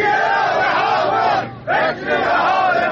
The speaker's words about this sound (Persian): بازنشستگان صنعت فولاد ایران در لنجان اصفهان در تجمعی به پرداخت نشدن مستمری خود اعتراض کردند.